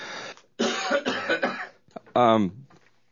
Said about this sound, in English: I've got a cough.